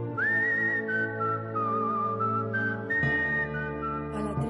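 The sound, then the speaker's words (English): A person whistles a short melodic phrase, gliding up and then stepping through several sustained, clear notes, over a steady low droning background. “Then he has whistled a little phrase he seemed so fond of.”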